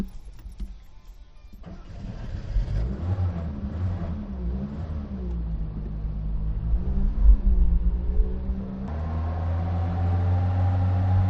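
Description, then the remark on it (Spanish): A Seat 600 car engine starts and runs, heard from inside the cabin while riding aboard in Torrejón de Ardoz, Madrid, a steady low rumble that rises and falls as it revs and shifts, with no talking. “he estado a bordo de un Seat 600 y esto me ha dicho.”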